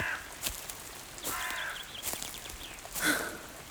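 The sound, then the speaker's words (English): A crow caws several times in a forest in harsh, raspy bursts spaced irregularly, moderately loud, with a quiet outdoor background and no talking. “Just a lovely, natural birdie. Just a silly old crow.”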